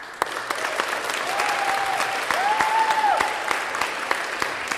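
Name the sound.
audience applauding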